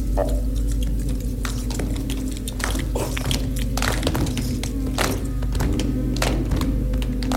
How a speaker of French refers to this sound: pourquoi il claque tellement des dents? Parce qu'il a froid.